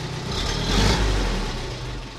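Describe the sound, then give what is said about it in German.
A small rotary tiller engine idles with a steady, low rumbling putter that swells slightly in loudness partway through before settling back. No voices are heard. “Aber jetzt schnurrt er wie ein Kätzchen, oder?”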